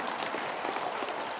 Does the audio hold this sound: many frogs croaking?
no